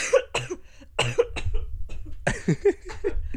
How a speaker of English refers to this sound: Coughing fit. Coughing fit moment.